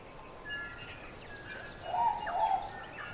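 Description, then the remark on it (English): Several birds sing in a quiet, dense forest among tall mountains in a remote country surrounded by the South Pacific Ocean, trading thin whistled notes and a louder warbling phrase near the end, with no voices present. “The dense forest and the tall mountains had no predators, and the birds had nothing to fear. So they sang.”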